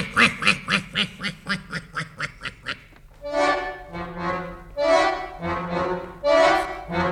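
ducks quacking

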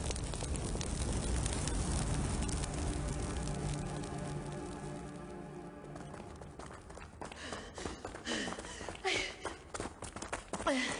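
fire burning

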